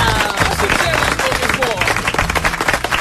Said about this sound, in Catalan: Un aplaudiment per ell.